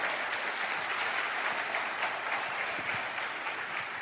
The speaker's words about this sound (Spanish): un fuerte aplauso para nuestro equipo de apoyo